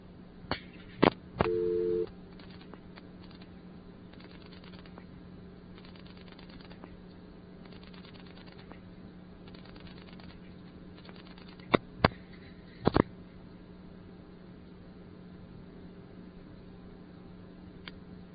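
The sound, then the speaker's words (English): A telephone line calling a ringing number, with steady low hum and scattered clicks, interrupted early by one brief buzzy double ringback tone, coded ringing for a party line, then long stretches of quiet line noise before more sharp clicks near the end. “Here's another ringing number. This one has double ring, which indicates coded ringing for party lines.”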